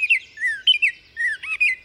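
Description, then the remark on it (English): A Baltimore oriole sings a short series of clear, whistled notes, sliding and slightly varied, fairly loud with brief pauses between phrases and no other sounds. “And the short and sweet oriole.”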